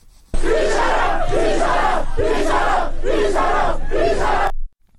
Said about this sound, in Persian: ویدیوهایی نیز از دانشگاه آزاد شهر کرد دریافت شده که نشان می‌دهد دانشجویان در این دانشگاه تجمع کرده و شعار هر یک نفر کشته‌شه 1000 نفر کشته‌شه سر می‌دهند.